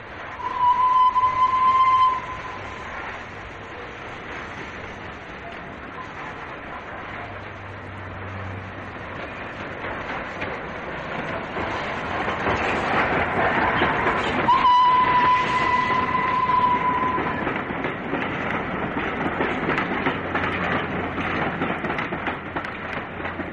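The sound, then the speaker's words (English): The steam locomotive Flying Scotsman pulls into Marylebone station on 18 April 1964, hauling a train from Manchester, with a steady rumbling hiss that swells midway, punctuated by two shrill whistle blasts, one at the start and another partway through. “Flying Scotsman arriving at Marylebone on the 18th of April 1964.”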